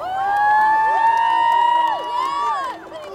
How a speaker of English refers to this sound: And then the cheering started on the dock. And it's just full of people on the dock. You could hear, it was just packed, and they were just cheering and yelling, and we were just sprinting to the finish line